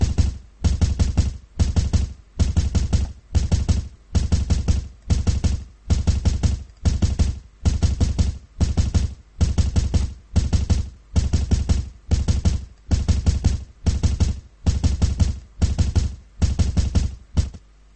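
Persistent knocking on a door: short clusters of rapid, hard raps repeat in a steady rhythm, about twenty bursts with brief gaps between, loud and unrelenting, with no voices.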